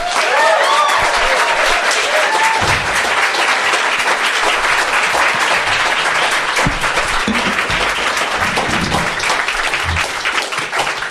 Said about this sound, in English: Would you please welcome with warm applause, Jeremy Hardy.